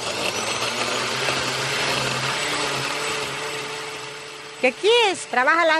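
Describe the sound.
An old blender grinds away with a steady, rough motorized whir for several seconds before cutting out, then a person's voice briefly speaks over the quiet at the end.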